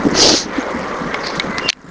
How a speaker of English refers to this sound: Another car rolling past.